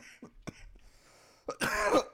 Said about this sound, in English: Oh, I need me a cough right. I'm sorry.